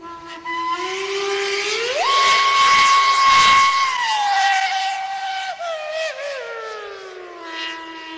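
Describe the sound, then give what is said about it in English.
A loud mockingbird steam whistle on locomotive number 11, a whistle with two ropes that can be played in different tunes, swoops upward in pitch, holds a piercing tone, then warbles and slides back down over several seconds, with hissing steam underneath and no voices. “When it came out, it had a whistle I've never heard before. It's pretty crazy. It's called a mockingbird whistle.”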